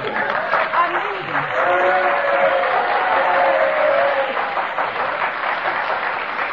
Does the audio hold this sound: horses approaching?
no